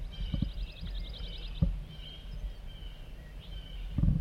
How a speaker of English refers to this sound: Chittering by a wild bird coming in.